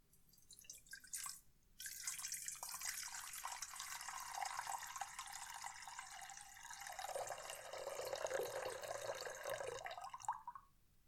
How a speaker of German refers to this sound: Ja, ich nehme die Wertsachen nun wieder heraus und lasse nun ein wenig Wasser in die Klangschale gießen. Vielleicht hören Sie es, wie es plätschert.